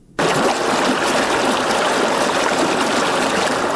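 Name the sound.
flowing river water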